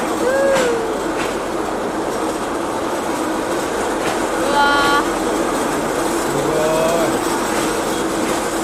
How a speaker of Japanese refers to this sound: これから400メートル超えのトンネルを真っ暗の中突き進みます。追突注意。 本当だよ、本当だよ。 すごい、真っ暗。 あ、車間距離を十分。 トンネル真っ暗。 あ、ライトついてる、前の自転車。 入った、トンネル入った、すごい。おお。